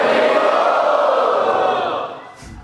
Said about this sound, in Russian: Поднимите, пожалуйста, руку и громко крикните «Хари Бол».